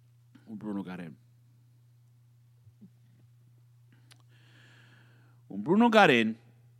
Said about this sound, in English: Excuse me, as I belch into the microphone, I don't care.